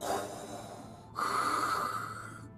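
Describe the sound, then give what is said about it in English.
Two long, heavy breaths, an inhale then a louder exhale with a buzzy, mechanical rasp: the deep breathing of Shark Gator, a distant half-robotic shark creature. Steady, with no talking. “Suddenly, they heard the deep breathing of a distant robotic shark creature known as...”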